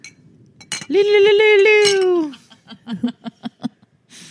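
Glasses clink together in a toast, a couple of bright taps, while a voice lets out a long drawn-out cheer followed by a short burst of laughter.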